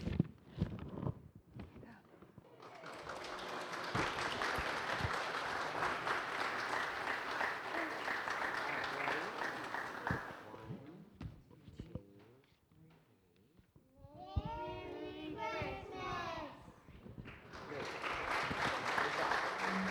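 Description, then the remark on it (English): An audience at a morning worship service breaks into loud, sustained applause for several seconds, fades to a lull where voices rise briefly, then the clapping swells again toward the end. “Give him one more round of applause here this morning.”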